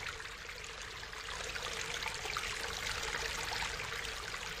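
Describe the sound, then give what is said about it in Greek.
A steady, continuous rush of water flows through a wide, large pipe full of water and soap suds, broad and hissy with a low rumbling undertone, holding an even, moderately loud level throughout with no voices. “Τα νερά με σπρώχνουνε, με σπρώχνουνε, με σπρώχνουνε, όλο και πιο γρήγορο μέσα στο χαρδί σωλήνα.”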